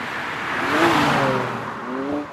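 A racing car engine at a car race roars loudly at full throttle, its whining pitch climbing and shifting through a couple of seconds of steady, dense revving with no voices.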